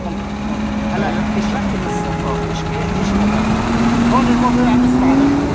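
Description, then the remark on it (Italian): Construction machinery drones steadily, a low engine hum that slowly shifts pitch and swells slightly louder toward the end, with scattered clanks and faint voices mixed in: work bringing services to the Israeli settlement of Nov Zion, above Jabal el-Mukaber. “I rumori che sentite sono i rumori dei lavori che si stanno facendo per portare servizi a questo insediamento israeliano.”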